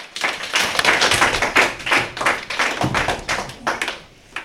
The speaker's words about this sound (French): Applaudissez-les bien fort !